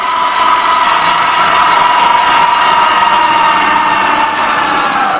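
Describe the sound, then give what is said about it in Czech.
A loud, continuous siren wails steadily, blending with a dense mechanical roar as a steel blast block slides out from the right to seal an entrance in a metro, sustained without pause and without any talking. “Mechanika odkryla v podlaze speciální kolejiště a vchod neprodyšně uzavřel ocelový blok, který za rachotu sirén a blikání červených světel vyjel z pravé strany.”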